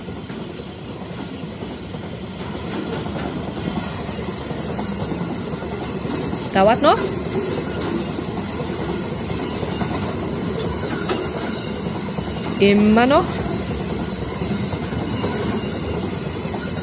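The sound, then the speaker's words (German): A heavy freight train, about 3 km long with 270 wagons and 4 locomotives and weighing about 40,000 tonnes loaded, rumbles steadily past at about 65 km/h for the whole stretch, a dense low roar with two brief wheel squeals; a voice asks a couple of short questions over it. “Und so klingt das übrigens, wenn der Zug vorbeifährt.”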